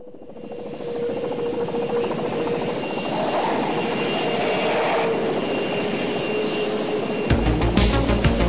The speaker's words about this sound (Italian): con, ecco, questo elicottero che parte col becco blu.